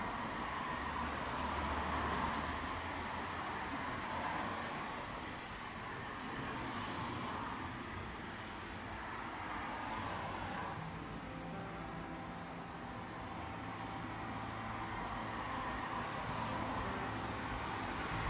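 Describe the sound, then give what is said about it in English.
A steady, low hum of distant car traffic heard outdoors in the early morning before sunrise, with wind. A broad continuous rumble with faint airy noise on top and no voices stays even and far off throughout. “I walk outside and all I can hear is the wind and the hum of distant cars, and I feel peaceful.”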